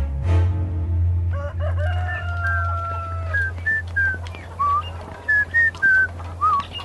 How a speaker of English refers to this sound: Do beggars usually whistle so happily